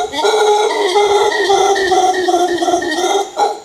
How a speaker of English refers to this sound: In fact, we're so into our work, we actually live right in the main plaza of the archaeological site as guests of Chan Chich Lodge, a small jungle resort. And I do mean jungle, howler monkeys and all.